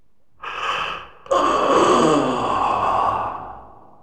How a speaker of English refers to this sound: Yawn.